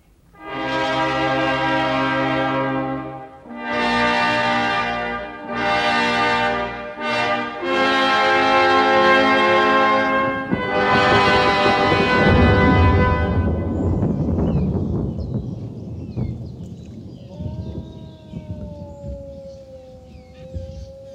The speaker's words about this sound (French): Il est une bête et une seule qui hurle dans les bois la nuit. Horreur. Son long hurlement modulé. Un aria de frayeur rendu audible. Le chant du loup est le bruit du tourment qu'il vous faudra souffrir.